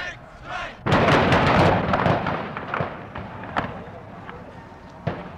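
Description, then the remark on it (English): Gunfire erupts suddenly in a loud, dense volley of rapid cracking shots, then thins into scattered sharp reports, with a few single bangs standing out toward the end. “And all of a sudden I heard the shooting.”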